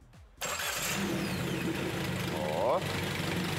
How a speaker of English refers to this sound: It's idling just fine.